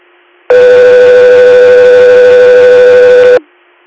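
A loud dispatch alert tone sounds as a single steady, buzzy pitch held for about three seconds, then cuts off abruptly over a faint background hiss. No one speaks.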